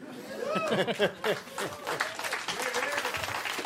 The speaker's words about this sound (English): Don't applaud that. It's so stupid.